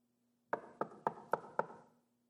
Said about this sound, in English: How many of you have heard that knock? How many of you have figured out who's at the door? How many of you have heard that and take a peek but don't want to open the door?